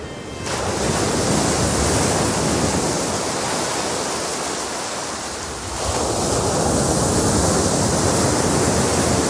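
Steady roar of sea waves breaking, a broad hissing wash that dips slightly midway before surging back up, loud and continuous with no voices.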